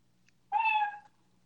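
A single cat meow, short and clear with a bright, slightly falling tone, heard on its own over a faint low background hum.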